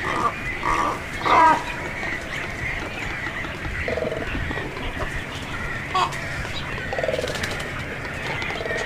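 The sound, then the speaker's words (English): A chorus of black, serpent-necked cormorants croaks and grunts in low, guttural, pig-like calls at a nesting colony of hundreds of nests where they guard their eggs, inside stone walls under a highway bridge with smokestacks nearby, overlapping steadily throughout, with a few louder rasping bursts standing out from the constant noisy din. No one speaks. “Most surprising to me were the croaking conversations of the black, serpent-necked cormorants, which sounded like hogs or demons.”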